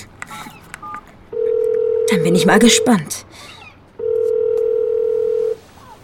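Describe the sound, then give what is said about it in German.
Quick beeps of a phone number from a business card being dialed, then two long, steady ringback tones with a pause between them, heard over a handset while a person speaks briefly in between. “Los, rufen wir diese Nummer einmal an.”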